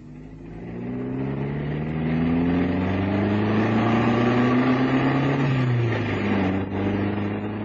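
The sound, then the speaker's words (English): A car engine hums steadily while being driven, its droning pitch climbing gradually as it accelerates, then dipping briefly as if shifting gear. No one speaks. “You drive very well, Mr. Cannon.”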